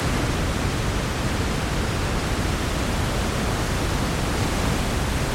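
A steady wash of white noise fills the entire stretch, an even, unbroken hiss at constant loudness with no pauses, voices or other sounds.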